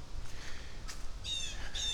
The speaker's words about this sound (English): There's a squawky bird up here squawking at me.